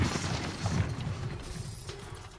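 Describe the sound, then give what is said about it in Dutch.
A heavy vault door is smashed open from the inside by Obelix in an Asterix story, a dense, rumbling crash of metal and debris that keeps grinding on for a couple of seconds, fairly loud, with no voices. “Maar ik weet niet of we deze kluis wel van binnenuit open mogen breken.”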